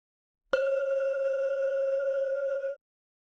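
A single meditation gong strike rings out alone with a sharp attack, then holds a steady, shimmering mid-pitched tone with bright overtones for about two seconds before cutting off.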